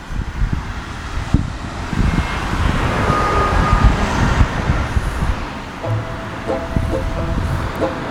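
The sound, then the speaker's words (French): Steady roadside traffic as cars drive onto the ramp to the expressway toward Lorient, about one car every 10 seconds: a continuous low engine rumble mixed with wind buffeting the microphone, and a faint tonal whine toward the end. “Donc là, il y a davantage de voitures qui s'engagent sur la bretelle qui mène à la voie express côté Lorient.”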